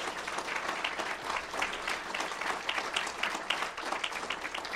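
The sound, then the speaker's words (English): An audience at an Al-Anon gathering claps steadily for the delegate, alternate and other officers, a dense wash of many hands at even loudness that holds from start to finish, with no voices standing out. “So let's have an applause for all of them.”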